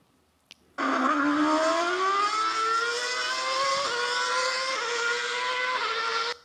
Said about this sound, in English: That was a Formula One car.